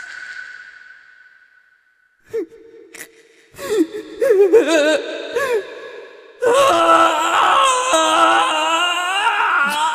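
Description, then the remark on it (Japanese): A person weeps for an enemy, with breathy gasps and shaky, wavering whimpers that start faintly and then swell into louder, sustained sobbing in the second half. “この仇のために泣いてくださるのか。”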